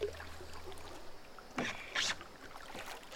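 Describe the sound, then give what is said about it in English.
Paddle strokes splash and swish through water as one woman paddles a small boat along, with two louder sloshing pulls standing out over a steady watery background. “See if you can still steer one of these, huh? A little big for one girl, but not too bad. Alright, yeah, doesn't tip.”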